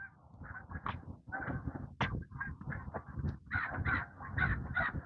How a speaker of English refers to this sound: And a crow. And another crow.